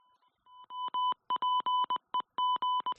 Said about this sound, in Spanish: Pues eso, es el sonido del morse de los goles.